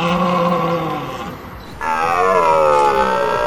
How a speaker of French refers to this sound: Oui, du brame du cerf. On compte environ 200 cerfs sur le département, principalement situé en forêt du Gavre, 4500 hectares de forêt.